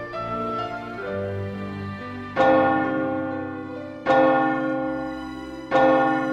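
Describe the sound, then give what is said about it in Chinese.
A church bell tolls as it strikes ten o'clock at night, with three heavy strokes about a second and a half apart. Each strike rings out loudly and hums away slowly over the resonance of earlier strokes. “当晚上的教堂敲出十点的钟声时”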